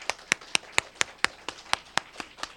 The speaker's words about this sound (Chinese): 俾啲掌声我哋嘅父神。